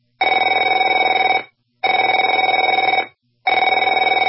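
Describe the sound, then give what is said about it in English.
A telephone rings in three loud, buzzy bursts of about a second and a half each, separated by short silent gaps, with a bright trilling tone and no voices. “Afraid to answer it?”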